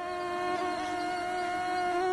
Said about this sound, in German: Tja, dieses Geräusch, das kann man gerade leider oft hören. Die Stechmücken sind unterwegs.